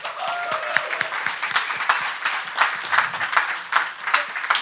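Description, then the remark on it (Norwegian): A crowd applauds steadily for several seconds, many hands clapping in a dense, crackling wash with no one speaking over it, welcoming the day's guest, a viper photographer and leader of the Norsk Herpetologisk Forening. “En stor applaus til dagens gjest, hoggormfotograf og leder for Norsk Herpetologisk Forening”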